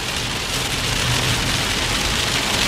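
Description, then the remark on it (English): Heavy rain pours down steadily on a car windshield while driving, a dense, loud hiss of countless drops drumming on the glass, with no voices and no letup across the short stretch. “Oh wow, listen to that rain now. It's really coming down.”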